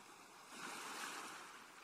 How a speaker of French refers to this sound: Vous appréciez pour quelques minutes encore le bruit des vagues et des mouettes et la douceur de cette mer accueillante.